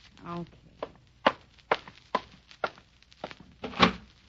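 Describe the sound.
Seven or eight steady footsteps thud across a hard floor as someone goes to answer the door, followed by a louder, fuller clunk as the door is opened. A brief murmur of a voice comes before the steps.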